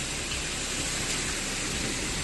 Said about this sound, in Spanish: fuertes trombas de agua han descargado esta tarde en distintos puntos de la región y nos han dejado un rosario de incidencias y también sonidos como este en Calasparra, donde la tormenta ha cubierto las calles de Granada.